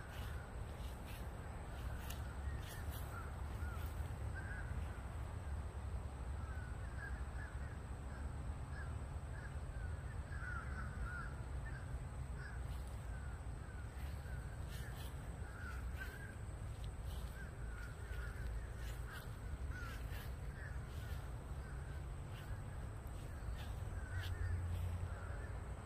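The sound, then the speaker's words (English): Crows caw repeatedly in short, harsh bursts over a steady low rumble of background noise, with no one talking throughout. “Let me be quiet so you can hear these fucking crows.”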